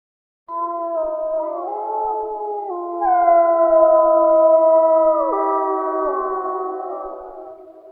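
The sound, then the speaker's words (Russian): Several wolves howl together in a winter forest in a sustained chorus, their long, overlapping tones sliding up and down in pitch. The howling is loud and continuous for the whole clip, with no talking. “Конечно, это волк.”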